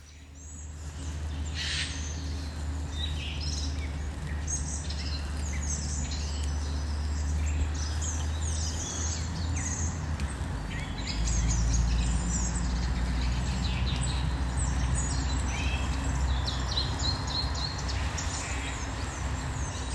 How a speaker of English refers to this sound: And it's from taken in the Black Mountains. Now, all the information I've got is surprising January bird song. So let's see if we are surprised by this one.